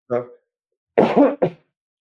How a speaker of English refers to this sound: I get nervous and I cough a little more. So when I'm playing with the symphony orchestra, I'm sucking on a cough drop the whole time.